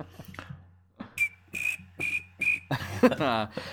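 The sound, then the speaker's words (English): Someone imitates cricket chirping with their voice: four short, evenly spaced, high whistled chirps, followed by a louder, longer raspy trill that sweeps upward at the end. “Can you do the cricket sound effect for us”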